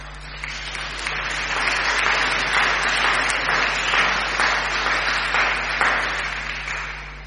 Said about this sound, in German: Ja, nochmal herzlich willkommen in unserer Gemeinde. Herzlich willkommen in Gottes großem Ehrenfeld. Herzlich willkommen bei Gott, dem Vater. Und ich glaube, das ist dann nochmal ein Applaus wert.